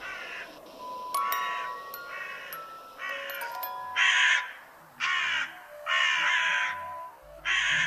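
Several crows caw loudly in Berlin in the morning, harsh calls coming in repeated bursts with short gaps, over a faint background of other bird chirps and outdoor ambience, with no one speaking.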